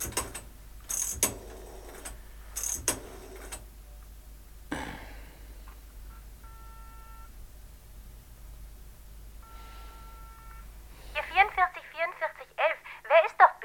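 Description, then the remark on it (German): Mechanical clicks and whirring of a telephone being dialed in a phone booth, followed by steady ringing tones on the line, fairly quiet, before a voice starts talking at the end. “Diese Telefoniererei.”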